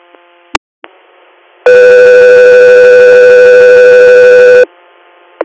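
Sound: dispatch alert tones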